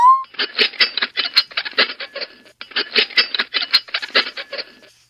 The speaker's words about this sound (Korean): 어머, 괜찮아요, 더치스? 왜 숟가락으로 자꾸만 파이 접시를 긁는 거죠?